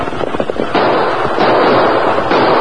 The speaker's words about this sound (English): There it is. Come on. Fire your gun into the air.